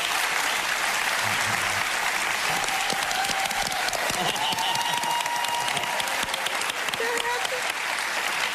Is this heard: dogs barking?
no